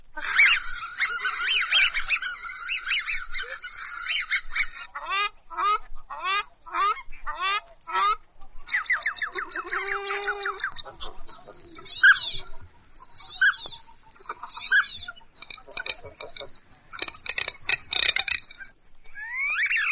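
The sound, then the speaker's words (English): A busy chorus of calls from various duck species from around the world at the Wildfowl Trust: honks, whistles, and rasping quacks overlap and alternate in quick bursts, fairly loud, with no one talking. “We've got over 100 different kinds of ducks from all over the world at the Wildfowl Trust. Here are some of them.”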